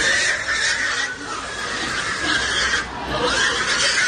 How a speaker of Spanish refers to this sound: Se metieron en las taburdas y dieron un susto, por cierto, de muerte a los animales, que chillaban lo que no está escrito. Y llegaron a coger a un cerdo en volandas que el animal, el pobrecito, no había visto una igual en su vida.